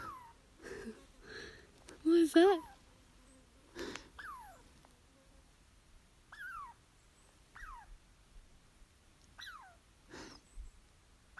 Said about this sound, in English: The squirrel's not happy we're here.